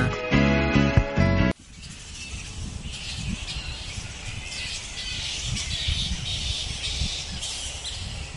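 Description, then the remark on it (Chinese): Wildlife calls heard in Australia: a short, loud tonal call opens, then gives way to a dense, continuous chorus of shrill squeaks and chatter, like a roosting colony of bats calling together at a steady, moderate level; bat, crow and penguin calls. “嗱，呢个蝙蝠声，呢个乌鸦声，呢个企鹅喎，啊呢个先企鹅啊”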